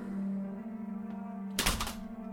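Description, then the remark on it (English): The lock on a bedroom door is undone with one short, sharp mechanical clunk, rising briefly out of a low, steady background hum. No one speaks. “I jumped back into bed and under the sheets just as the lock was coming off my door.”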